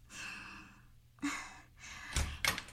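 door being opened

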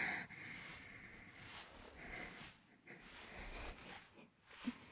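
heavy breathing from exertion

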